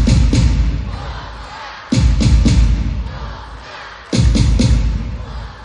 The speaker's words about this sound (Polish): Biało-czerwone, gramy i pomagamy! Wszystkie dłonie klaszczą! Moi drodzy, potrzebny jest doping!